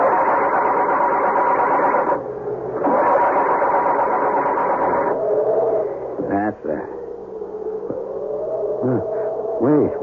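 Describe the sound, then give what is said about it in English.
The engine of a car that has crashed into a tree is started: it strains through two loud, buzzing cranking bursts separated by a brief pause, then settles into a steady low rumble, with a few quick rising revs near the end. “Muttering a silent, heartfelt prayer, he tries to start it.”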